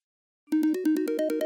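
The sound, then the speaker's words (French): After a brief silence, an iPhone ringtone starts: a rapid, steady train of bright electronic beeps whose pitch steps upward as it goes, loud and alone with no one talking. The phone is made to ring by pressing the button on a small tracker device. “c'est-à-dire même si je suis pas très loin et que je cherche, eh ben j'appuie sur le bouton dont je vous ai parlé tout à l'heure quand on a fait le déballage, et du coup, ça va faire sonner le téléphone.”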